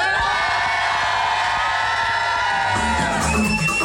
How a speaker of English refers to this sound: Everybody in the crowd, make some noise. Hang on a second. Can you make some noise for the radio?